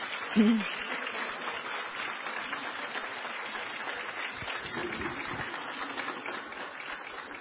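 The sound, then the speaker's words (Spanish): An audience applauds steadily, a dense and continuous patter of many hands clapping that holds an even level from start to finish, with no voices standing out. “Vamos a darles un gran aplauso.”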